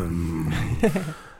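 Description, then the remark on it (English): A person vocally imitates a growling stomach with a low, rumbling growl that rises into a brief throaty burst, about a second long, fairly loud with no other sounds. “And when I listen to my growling stomach, it makes like...”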